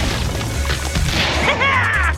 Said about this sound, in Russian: Звук удара стали о кость. Этот нож мог попасть в меня, но это все равно не поможет тебе.